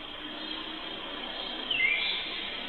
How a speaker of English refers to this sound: Listen for the background bird. The noise up front is just traffic noise and background sound.